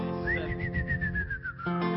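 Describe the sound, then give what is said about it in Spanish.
A single sustained human whistle imitating an ox-cart driver's call: it rises quickly, then holds and slowly falls in pitch for over a second, clear over a low, murmuring background. “Y hacía un silbido, ¿no?”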